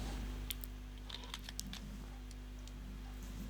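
Quiet crinkling of plastic packaging as scissors cut into it, with scattered short snips and rustles over a low steady hum, and no one talking.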